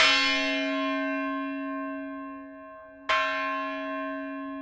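The bell of the Nantucket Lightship, a 100-foot bright red lightship docked in East Boston, rings twice, about three seconds apart, each clear metallic strike leaving a long, shimmering tone that slowly fades. Fairly loud, with no voices.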